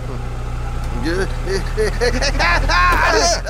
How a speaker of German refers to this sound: Der Ventilator! Der macht den Wind. Ach ja, den haben wir ja heute aufgestellt. Ja, weil es so heiß war. Und dann völlig vergessen. Der macht doch das Geräusch.